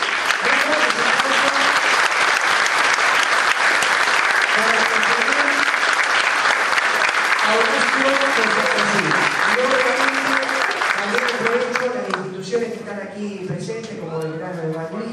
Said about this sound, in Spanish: Así que pido un fuerte aplauso.